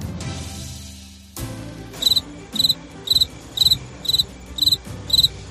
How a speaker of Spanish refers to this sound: ¿Te has comido alguna vez un grillo? Yo sí. Sí, sí, has oído bien. Un grillo como este.